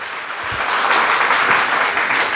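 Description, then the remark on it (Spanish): A crowd breaks into applause for Christ, a dense, steady wash of clapping that swells within the first half second and stays loud and sustained to the end, with no voices over it. “Den el aplauso a Cristo, por favor.”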